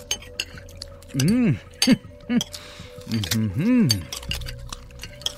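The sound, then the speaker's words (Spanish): Dishes and glasses clink and clatter in quick, irregular bursts, fairly loud, with a few wordless vocal sounds between them over a steady faint hum, as men at a feast devour food, liquor, sweets and offerings, leaving piles of dirty plates and used glasses. “Lentamente, los platillos, licores, dulces y el resto de las ofrendas fueron devorados para dar paso a pilas de platos sucios y copas usadas.”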